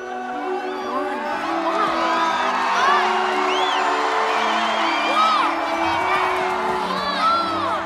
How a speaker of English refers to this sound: The fans cheer.